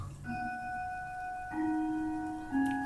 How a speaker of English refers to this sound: It's my dad's clock. Lovely. My late father, yeah. Yeah, let's listen to that. We're on the half hour there, are we? I think it's on the quarter. Oh, that's the quarter?